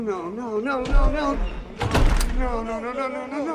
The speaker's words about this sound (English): They shut the front door and lock it.